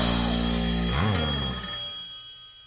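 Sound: telephone bell ringing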